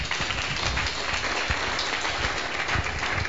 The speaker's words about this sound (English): Please, let's clap for him.